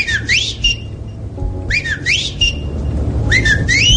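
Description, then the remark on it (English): A person whistles in bird-like trills, three quick warbling phrases rising and swooping in pitch, with short pauses between them over a steady low background hum. “maybe first grade when you're trying to impress somebody doing a bird whistle?”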